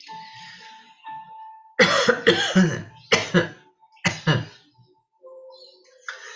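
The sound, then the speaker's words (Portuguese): A person coughs in a few loud, harsh bursts, in two clusters separated by brief pauses, with quiet hum and background noise between them. “Por exemplo, da comunicação, a gente vai tossindo.”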